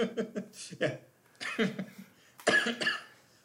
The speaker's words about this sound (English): I have a little bit of a cough. It's coronavirus. I shouldn't make jokes about that.